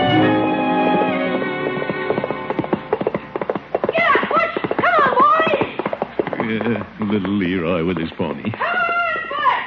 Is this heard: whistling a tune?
no